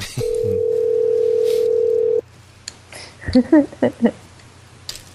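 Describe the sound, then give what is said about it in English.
A telephone ringback tone on an outgoing call to Regal Entertainment Group, Stadium 11: one steady, fairly loud electronic purr lasting about two seconds, then it stops and a few faint clicks and short muffled bursts follow. “Come on, answer.”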